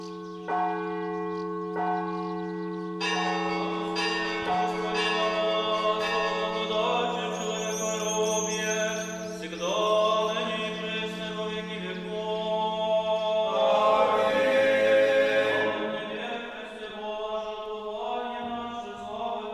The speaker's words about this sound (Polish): Dzwon najpierw wszystkich wzywa do cerkwi. Rano, słysząc dzwon, wszyscy od razu wychodzą do cerkwi. Później dzwon poprzedza liturgię.